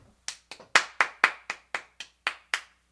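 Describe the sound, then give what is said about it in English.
A single person claps about ten times in a steady, fairly quick rhythm, each clap sharp and close, with a short ringing tail and no talking. “To clap, C-L-A-P, is to do this.”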